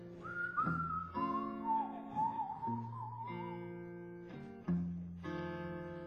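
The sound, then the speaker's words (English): A person whistles a wavering, sliding melody at moderate volume while walking down McDougal Street at night, carried over steady sustained instrumental chords that change every second or so, with no talking. “That's right, I just me whistling down McDougal Street.”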